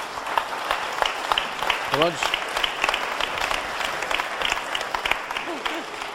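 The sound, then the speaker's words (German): Steady audience applause welcoming a guest, a dense rattle of many hands clapping, with a few brief voices rising over it. “Und hier ist Ihr Applaus”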